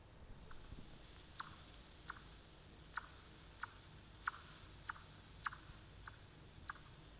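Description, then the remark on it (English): Echolocation calls of a bat flying in winter below freezing, slowed down tenfold and played back at 1/10 speed: a steady series of about nine sharp, high-pitched chirping clicks, evenly spaced roughly every half second or so, over a faint hiss with no talking. “So slowed down by a factor of 10, so that's being played back at 1/10 speed.”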